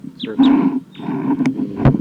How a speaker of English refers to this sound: Playback just stopped. That's the wild bird who started calling loud immediately after the playback stopped. Wild bird.